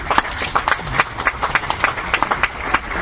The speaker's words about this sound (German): Applaus.